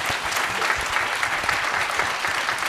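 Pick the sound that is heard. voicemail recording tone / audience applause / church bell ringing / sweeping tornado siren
audience applause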